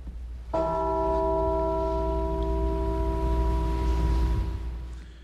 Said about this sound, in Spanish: Las campanas de las iglesias sonaron en Newtown y otros pueblos en ciudades de Estados Unidos en honor a las víctimas, mientras los dolientes permanecieron en silencio.